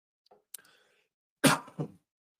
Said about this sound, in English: Sorry, a little bit remaining cough.